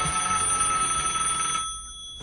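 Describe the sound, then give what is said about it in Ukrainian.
A telephone on a desk rings in a steady, rapid metallic trill with bright high overtones, then cuts off after about a second and a half, leaving a brief fading ring-out. No voices. “Мабуть, телефон, подумав президент і потягнувся до апарату.”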